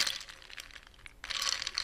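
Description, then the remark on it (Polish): Bright, dense crackling and crunching of an egg's shell rattling inside a jar partly filled with water, shaken to crack the shell for peeling, in two bursts split by a short lull, with no talking. “Część skorupki zniknęła, ale część nadal jest na jajku. Jest znakomicie pobita.”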